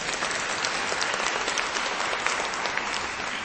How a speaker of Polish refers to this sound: Brawa także dla księdza biskupa Antoniego Długosza, wielkiego przyjaciela dzieci, który jest razem z nami i będzie z nami przeżywał nasze dzisiejsze spotkanie. Gorące brawa dla księdza biskupa.